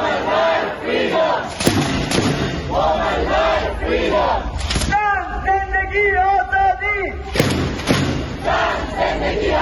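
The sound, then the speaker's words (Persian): A crowd of protesters in front of parliament and the foreign ministry chants the slogans "No to execution" and "Woman, Life, Freedom" in support of political prisoners including Abbas Deris, in loud, rhythmic unison, voices rising and falling in repeated phrases, with a few sharp thumps and a brief sustained tonal chant in the middle. “حاضران علاوه بر پشتیبانی از زندانیان سیاسی از جمله عباس دریس، شعار نه به اعدام و زن زندگی آزادی را فریاد زدند.”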